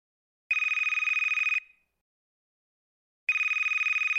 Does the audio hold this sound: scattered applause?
no